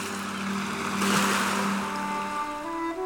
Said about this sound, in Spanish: culminar en el paseo marítimo frente a los arenales del Orzán, donde el mar sigue embraveciéndose con cada ola y sus ímpetus renacían como en un sueño, abrazados con vehemencia a las caprichosas mareas.